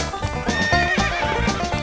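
Horse hoofbeats approaching from afar thud in a steady, rhythmic gallop while a horse whinnies and neighs over them, fairly loud and continuous, with no one speaking.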